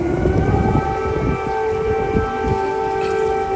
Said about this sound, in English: Air sirens blasted in Kyiv as U.S. President Joe Biden made an unannounced visit to Ukraine Monday to meet with President Volodymyr Zelensky.